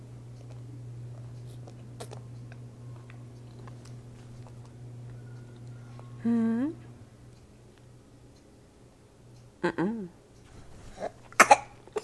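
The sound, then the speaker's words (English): A couple of short, sharp coughs near the end, preceded by a few brief vocal sounds, all over a low, steady background hum. “Is that a cough?”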